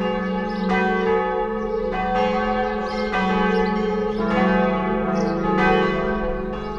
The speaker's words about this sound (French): Autre curiosité de l'église de Chanqueuil, son beffroi où subsistent des traces de trois grosses cloches, dont une seule a subsisté jusqu'à nos jours. Il s'agit de Geneviève, véritable grosse dame de 960 kg, fondue en 1566.